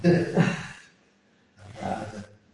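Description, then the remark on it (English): Two loud, rough roars from a big cat, one after the other with a brief pause between them, forceful with a deep growling rumble. “It's about that size before you put a tail on him. Like a small mountain lion.”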